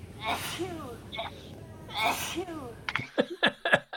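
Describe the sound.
Two loud, breathy sneezes about a second and a half apart, each with a voiced rising-then-falling tail, followed by a quick run of sharp clicks and taps.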